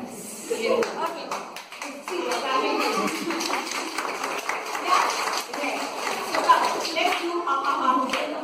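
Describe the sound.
An audience claps steadily, a dense patter of many hands that keeps going for several seconds with a mix of voices murmuring underneath.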